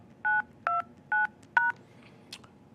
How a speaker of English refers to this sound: Here it comes. Using Microsoft sign-in verification system. Please enter your PIN followed by the pound key to finish your verification.